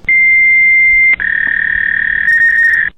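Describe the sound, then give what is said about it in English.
Two steady, high electronic tones in a row, one after a brief click-like break, the second slightly lower and warbling, as a computer's dial-up modem begins its connection. Loud, with no talking. “Modem connected.”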